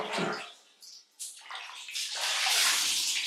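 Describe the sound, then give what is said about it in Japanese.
Water is poured out in two rushing splashes with a brief pause between, the second a longer, steady gush, rinsing soap foam off someone in a bath. “よいよい、もう一回流すぞ。”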